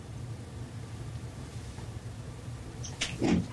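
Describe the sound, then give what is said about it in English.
A steady low rumble fills the background, then near the end comes a brief clatter and thump as a door is unlatched and swung open for a visitor. “Hang on a sec, I just got somebody at the door.”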